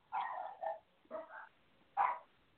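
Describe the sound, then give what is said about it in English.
A dog named Mocha barks in a few uneven bursts, short fussy yelps and grumbling barks with pauses between them, fairly loud and with no talking over it. “I hear it, but she's fussing. That ain't a happy bark.”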